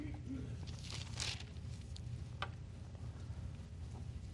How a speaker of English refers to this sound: I like to hear these pages turning. If you don't have a Bible, get a songbook and turn the pages.